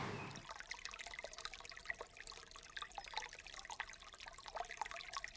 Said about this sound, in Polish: patrzeć na wodę, która spokojnie płynie